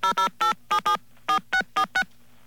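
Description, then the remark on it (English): A rapid series of about nine electronic telephone keypad tones as someone dials the phone company Sprint, each tone short and evenly spaced with brief gaps, clear, with no voices present. “So let's make another phone call. This one will be going out to Sprint.”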